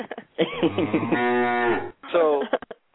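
A cow moos loudly, one long drawn-out low bellow followed by a shorter second moo, with no talking over it.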